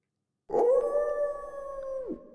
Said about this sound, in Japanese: あれ？もうこんな時間。狼さんが泣いたら帰った方がいいんです。いきなり暗くなるから。